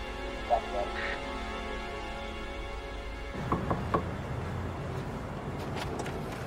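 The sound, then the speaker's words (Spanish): Three quick knocks on a room door by an employee asking a maintenance question, moderately loud, rapped in a short even burst over a steady low background rumble. “le piden que toque la puerta para hacer una pregunta de mantenimiento y mirar bien a quién esté dentro.”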